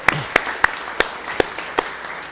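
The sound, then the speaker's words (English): A handful of sharp, separate hand claps ring out at an uneven pace, fairly loud, like a small group applauding briefly with no one talking. “And we can give them a round of applause.”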